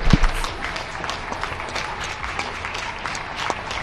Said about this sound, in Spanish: 8 de la tarde, 7 en Canarias, España sale a aplaudir.